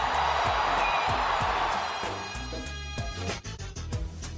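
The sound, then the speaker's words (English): A ballpark crowd roars and cheers after a game-winning home run by Chris Morrell, a loud, sustained wash of voices over steady low thumps, thinning out toward the end as tonal music-like lines come through. “A game-winning home run for Chris Morrell. Can you believe it? Listen to this crowd.”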